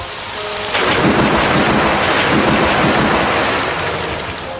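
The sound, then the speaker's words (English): A loud, dense crash of thunder bursts in after a brief rumble and sustains as a rushing, rain-like roar for several seconds. It is a video game storm attack effect for the move Storm Rush used by Urtana, with no voices. “Urtana used Storm Rush.”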